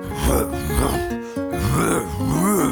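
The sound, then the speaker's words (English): A person growls in imitation of a leopard, a string of rough, rumbling growls with wavering pitch and a brief pause in the middle. “Will you growl like a leopard with me?”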